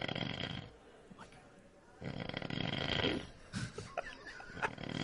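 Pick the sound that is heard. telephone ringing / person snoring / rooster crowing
person snoring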